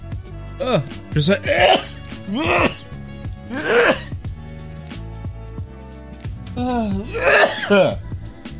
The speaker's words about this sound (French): Je viens d'éternuer. Je commence un petit rhume, je pense. Je commence un petit rhume.